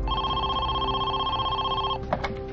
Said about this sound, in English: Just before 1 o'clock in the afternoon, the phone rang again.